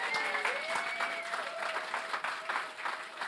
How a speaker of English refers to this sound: Round of applause for the kids there.